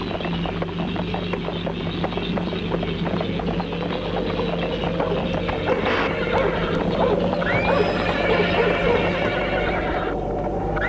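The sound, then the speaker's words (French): A horse whinnies over a steady stream of hooves clopping, with rhythmic clatter running throughout the whole stretch at a moderately loud level, as a woman arrives on horseback and dismounts. “Elle descend de cheval.”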